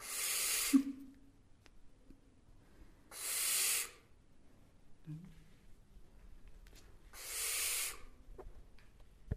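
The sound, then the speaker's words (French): An owl hisses close to the microphone as it examines the furry microphone cover: three loud, breathy bursts, each about a second long, spaced several seconds apart over a quiet background with faint low murmurs. “Elle se demande ce que c'est la moumoute là sur le micro.”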